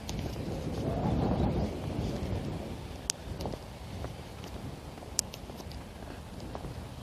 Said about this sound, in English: Yeah, I think that must be a thunderstorm building up over there. I think this is actually outflow that I'm feeling. It's more than just morning breeze. It's quite a stiff wind.